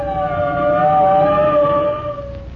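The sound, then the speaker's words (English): Fire truck sirens wail as fire trucks approach, with a loud, sustained tone that drifts slightly in pitch, over a low engine rumble. It grows louder, then eases off a little near the end. No one speaks. “Here comes the fire trucks”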